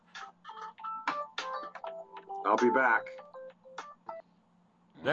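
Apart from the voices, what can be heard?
phone ringtone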